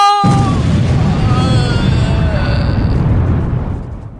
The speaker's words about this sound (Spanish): Pero comandante, la explosión ha acabado con todos los rehenes y la mitad de nuestros efectivos policiales y...